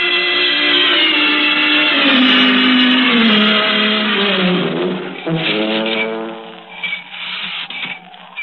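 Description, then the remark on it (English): A car horn blares in long, sustained, loud honks over the rumble of a running engine, with no voices. “That's him. That's his horn.”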